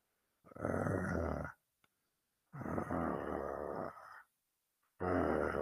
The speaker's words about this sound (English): That's all I can do. I can only growl at the incompetence of my state.